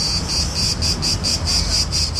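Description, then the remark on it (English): Cicadas in a tree in a small square in Greece sing in the summer heat, a loud, steady, high-pitched buzz that pulses rhythmically several times a second, with no voices present. “Cicadas singing, the sound of summer, usually the time for Greeks to chill out and party.”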